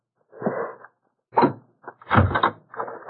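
A door bolted from the inside is unbolted and pulled open: a scraping rattle, a pause, then a few heavy clunks and a creaking swing, with no one speaking.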